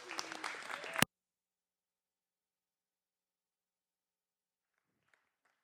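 A dense burst of audience applause with crowd noise fills about a second, then cuts off abruptly into near silence broken only by a couple of faint, brief ticks.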